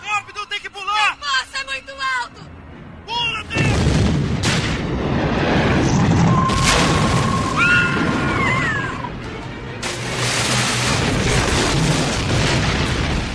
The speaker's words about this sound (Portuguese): Explosão. Tinha filme bom, americano, né? Tem que ter explosão, né, velho?